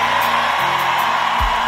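crowd, audience shouting

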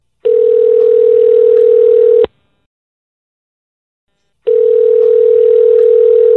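signal or alarm, telephone dialing a call

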